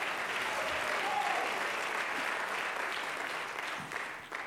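audience clapping hands

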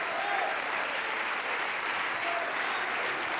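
audience clapping hands

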